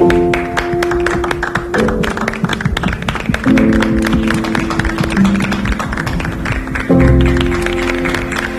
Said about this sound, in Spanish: A totes les persones que ho feis bé, aquest aplaudiment és per vosaltres.